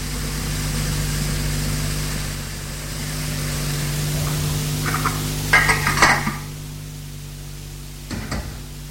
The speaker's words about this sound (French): Puis, je décidai de faire le ménage. Je lavais la vaisselle.